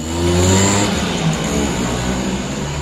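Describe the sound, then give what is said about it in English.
The small two-stroke engine of an East German S50 Simpson Classic moped buzzes loudly and steadily, its pitch shifting slightly as the moped rides off, with a raspy, whining tone throughout and no voices. “Konstantin rides off on his S50 Simpson Classic East German moped.”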